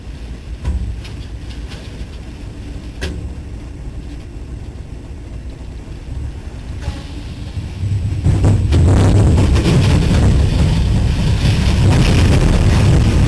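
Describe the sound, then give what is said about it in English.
A steady low rumble of a moving train, then about two-thirds through a loud, roaring rush of tornado wind sweeps in and swells, engulfing the train noise as the train is overtaken by a tornado during a very bad storm. No one speaks. “And watch this as this train encounters the tornado.”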